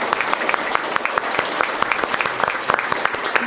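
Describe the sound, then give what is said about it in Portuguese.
A crowd applauds steadily for the many Indigenous peoples from various regions of Brazil gathered before the Human Rights Commission and FUNAI, a dense wash of many hands clapping with scattered sharper claps standing out, sustained and fairly loud throughout with no talking on top. “Eu quero aqui pedir uma salva de palmas para todos vocês.”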